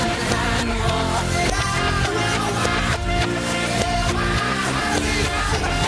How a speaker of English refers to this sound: Alright, that's this weekend's 90s backwards track song clip. Do you know it? If you don't, another hint is, he wrote the song to cheer himself up after a tough volunteer trip to Africa.